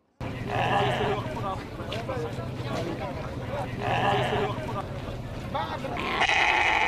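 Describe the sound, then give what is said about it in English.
Sheep bleat loudly, three drawn-out, wavering cries spaced a few seconds apart, over a constant low rumble and murmuring voices, like a busy livestock market. “We were sad, but thank Allah has helped Dad to have a sheep for this year.”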